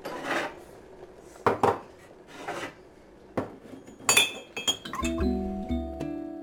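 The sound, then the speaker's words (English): Ceramic clinks and clatter of a cup being handled, followed by a steady gurgling stream of hot water poured into it over the last second or so, with a faintly ringing tone. “Okay, go get me a cup. Why? I need to pour the hot water.”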